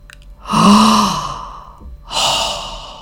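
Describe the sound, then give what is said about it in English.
A breathy, voiced gasp of admiration from animals watching an eagle fly above, like an awed "ahh", followed by a second softer airy breath. Both are moderately loud, with no talking. “Gasped the animals in admiration.”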